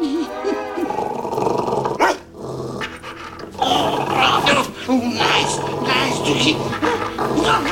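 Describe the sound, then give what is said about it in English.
A dog, Dottie, growls and snarls fiercely as she bites a man's backside, with sustained rough growling broken by a brief pause, then more agitated snarls and yips amid a busy, scuffling background. “Dottie bites his backside.”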